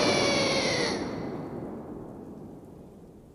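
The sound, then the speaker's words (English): A loud thunder crash with rain bursts out with a sharp, bright crack, then slowly fades into a long hissing rumble over a few seconds, with no voices. “A flash of lightning crashes through the sky and hits the ball of energy that Mewtwo's been gathering.”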